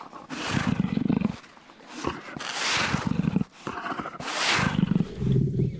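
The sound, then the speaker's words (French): A lion roars and growls in repeated, rough bursts, loud, with shuffling movement between the calls as it turns in circles, and no one speaking. “Ça remue et ça rugit.”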